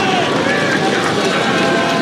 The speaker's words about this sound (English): Hubbub.